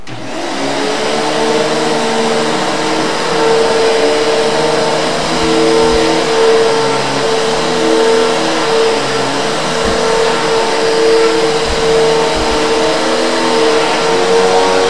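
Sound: vacuum cleaner running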